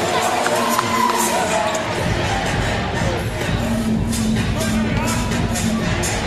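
A lively but smaller, limited crowd at a basketball game roars and cheers in a steady, loud wash of voices, with shouts and whoops rising out of the babble and a few sharp bangs.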